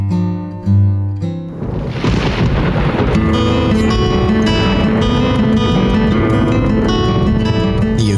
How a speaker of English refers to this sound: Storm.